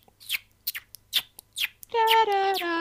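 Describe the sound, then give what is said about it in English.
A person mimics birdsong with a handful of quick, high, falling chirps and tweets, spaced irregularly, then a loud sustained hummed or sung melody from Peer Gynt takes over. “So you do bird song and I'll do Peer Gynt.”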